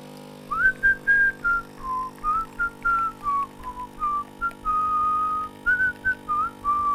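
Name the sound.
person whistling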